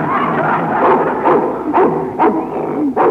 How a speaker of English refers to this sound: What a vicious pooch. How do you like my new dog? Dog? Is it male or female? No, it's a Russian wolfhound.